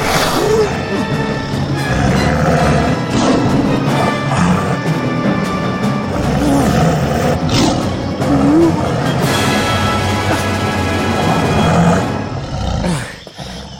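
tiger roaring

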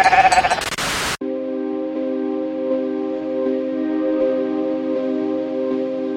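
sheep bleating

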